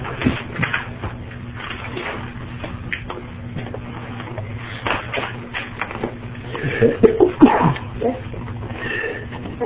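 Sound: sneeze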